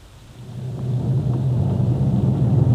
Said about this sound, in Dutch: Hij rijdt snel en zeker en haalt uit zijn motor wat eruit te halen is.